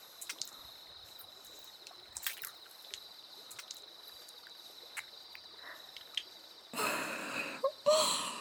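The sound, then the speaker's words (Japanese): Soapy hands scrub across a person's back, covering it in foam, starting with soft, scattered wet clicks and squelches, then two louder rubbing strokes of lathery friction near the end. No one speaks. “主人様のお背中一面、泡でいっぱいになってますよ。”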